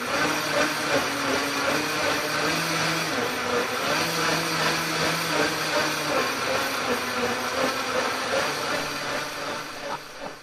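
A blender whirs steadily and loudly for about ten seconds, a dense grinding motor roar with shifting pitch as it churns, no voices over it.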